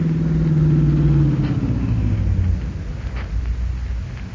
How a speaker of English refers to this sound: Here comes the bandit car. On your toes now.